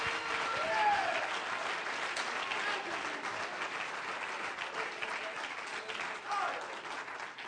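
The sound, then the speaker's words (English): A church audience claps steadily and loudly in praise for several seconds, a dense wash of applause with scattered cheers and shouts rising over it, holding strong throughout. “If you're a little glad about that, clap your hands and lift your voice and give him praise.”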